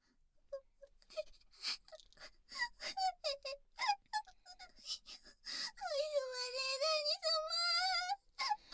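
A girl cries in short, choppy sobs and gasps, then breaks into a long, high, wavering wail that holds for a couple of seconds before cutting off with a final sob.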